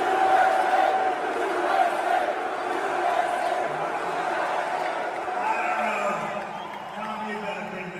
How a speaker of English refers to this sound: This is the Trump crowd inside. So that was the outside. This is the inside.